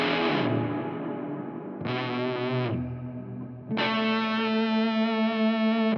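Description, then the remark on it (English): Guitar chords played through a combined double overdrive and reverb pedal, three washed-out strums in a row that swell and blur together into a dense, shimmering, distorted wall of sound, with no voices. “I feel like you can get some of that … kind of drenched reverb. Drench me. Hit some chord kind of thing.”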